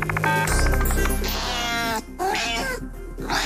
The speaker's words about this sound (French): Je relance la machine afin d'interpréter les miaulements d'un simple chat.